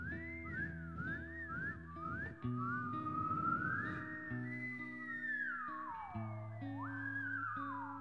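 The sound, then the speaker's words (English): People whistle birdlike trills and long sliding notes along with a song over a steady instrumental backing, clear, continuing throughout with rising and falling swoops. “Feel free to whistle like birds with us.”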